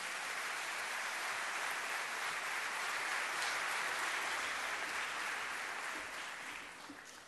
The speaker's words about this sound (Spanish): Lo vamos a presentar al presidente de CAPIF, fuerte el aplauso para Guillermo Castellani.